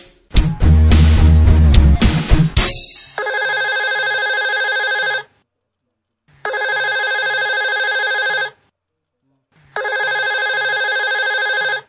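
An outgoing call's ringback tone, placed for a telephone interview for the JuviPont project, sounds in three even, steady bursts of about two seconds each, separated by silent gaps, following a brief burst of loud music at the start.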